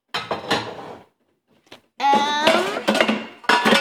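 Metal pots clatter and clank as they are pulled out of the bottom drawer and set down to get at a baking dish, a burst of rattling, a pause, then several more sharp, ringing knocks.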